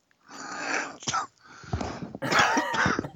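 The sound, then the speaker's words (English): Wheezy, strained coughing bursts following laughter, fairly loud, in a few uneven fits with gasping breaths between them. “I'm like coughing now.”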